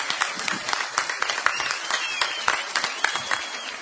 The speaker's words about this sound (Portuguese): Tem que sair com palmas esse homem.